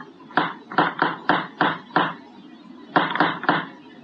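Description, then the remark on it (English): A police officer knocks on a door: six firm raps in an uneven run, a short pause, then three more loud knocks. Each hit is sharp and hollow, with no voices. “Knock again”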